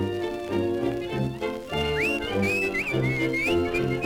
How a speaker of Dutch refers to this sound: Ja, er is nog een leuk fluitje erdoorheen.